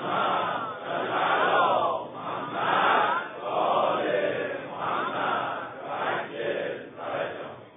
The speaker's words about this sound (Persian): من باید اسم این نام شریف گوینده این کلام با عظمت رو ببرم، همه تون فریاد بزنید.